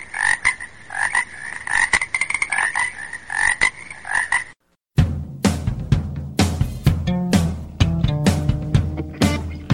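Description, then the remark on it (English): Frogs croak in a steady, rapid chorus of repeated calls for several seconds, then the croaking cuts off abruptly and a denser, fuller-toned sound takes over. “Frogs, we need more frogs.”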